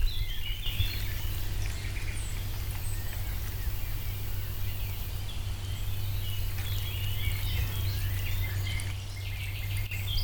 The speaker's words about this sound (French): Alors, on va juste écouter un petit peu là ce qu'on entend là, des petits oiseaux.